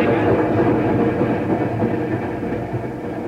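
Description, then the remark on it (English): A train rolls along steadily toward the stop at Marlin, a dense, continuous rumble of wheels on track with a faint clattering texture, loud, heard from inside the train. “Do you recall seeing me on this train last night?”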